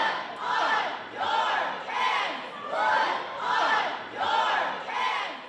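A crowd of students, parents and teachers protesting a firearm bill shouts "Blood on your hands" in unison in a state legislative chamber, repeating it about six times in a steady, driving rhythm, loud and insistent, with the voices rising and falling together.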